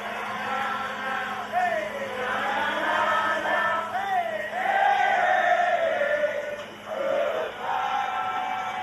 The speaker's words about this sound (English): I'll tell you, there were celebrations, there were cheers, there were chants.